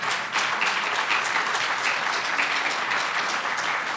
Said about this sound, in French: Ouais, vous pouvez l'applaudir.